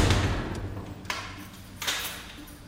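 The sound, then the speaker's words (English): A heavy cell door slams shut with a few hard metallic knocks and thuds over a low rumbling background, echoing. No one speaks. “The door is slammed shut, and another day is over.”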